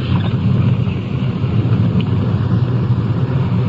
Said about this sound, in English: Here we are. Pulling into the drive.